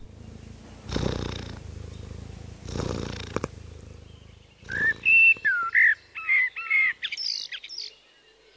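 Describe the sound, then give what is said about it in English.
A cat purrs, a low steady rumble swelling with each breath for several seconds, before bright birdsong whistles and chirps take over near the end. “A sound that I like is the sound of a cat purring.”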